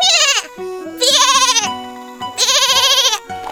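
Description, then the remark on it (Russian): A white young goat (kid) bleats three times in loud, quavering cries with short pauses between, and a fourth cry just beginning at the end; no voices. “Зовет Аленушка братца, а вместо Иванушки бежит за ней беленький козленочек.”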